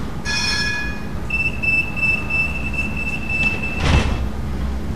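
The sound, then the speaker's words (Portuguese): A light rail tram in the Laranjeiro area rumbles as a steady high-pitched whine rises and holds over the low drone, ending in a brief hissing burst, with no one speaking. “vou apanhar um metro porque vai sair daqui a nada.”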